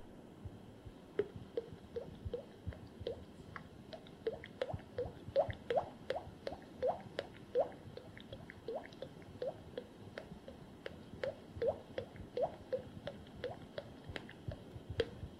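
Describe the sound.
A voice imitates spring meltwater dripping: a long run of wet, plinking drops, irregular but steady, moderately quiet, with no talking.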